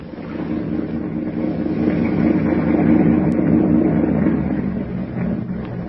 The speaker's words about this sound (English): Suddenly, the thick silence is broken by the low purr of a motorboat engine.